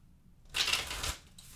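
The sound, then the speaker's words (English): A single quick riffle of a stiff, thick, brand-new deck of playing cards that is hard to shuffle, a crisp papery burst lasting about half a second, fairly quiet, with no talking. “They're very thick and hard to shuffle. Brand new deck.”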